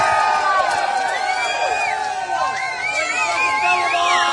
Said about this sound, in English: Let's bring the boys up. A round of applause for the musical chair fighters!